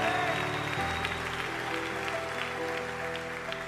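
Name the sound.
audience applauding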